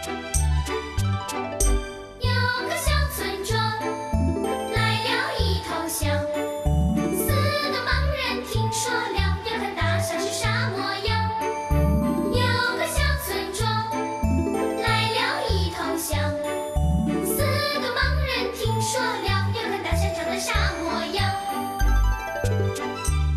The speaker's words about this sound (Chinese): 现在你听到的这首成语歌曲叫…，因为看不到大象到底啥模样，所以他们争来争去的，谁也不服气。